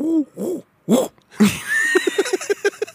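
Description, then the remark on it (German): A pigeon coos in low, hollow hoots: a few separate rounded calls, then a rapid run of short throaty pulses, moderately loud with no talking. “Die Schalke-Taube, natürlich.”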